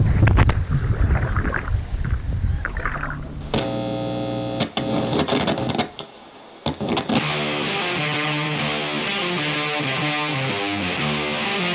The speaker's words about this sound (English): Lots of people live on this lake, Keith. There's a lot of boats out right now.